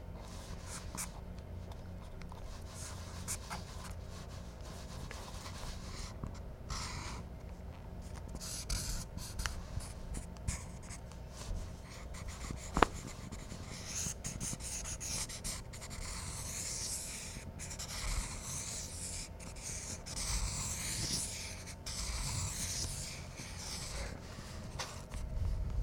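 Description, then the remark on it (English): A pencil scratches and scribbles steadily across paper, with continuous light strokes and rubbing, a soft papery hiss rising and falling for the whole stretch, no voices present. “Do you have room on your paper still?”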